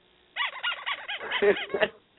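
rubber chicken squeak

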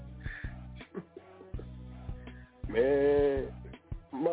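donkey braying

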